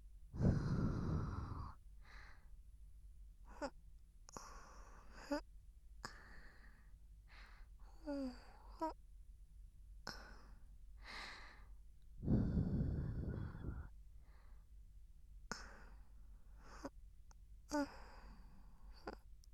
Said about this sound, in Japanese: お耳の仕上げ、梵天と吐息で細かい耳垢を取っていきますからね。もふもふ入りますよ。